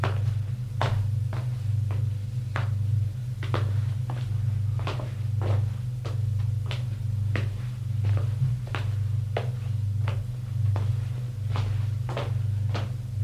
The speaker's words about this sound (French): Longe un couloir. Descend les escaliers.